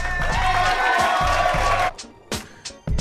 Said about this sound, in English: We could let the audience clap. Why you had to cut them off so early? They have things. They want to show their appreciation for this award-deserving show.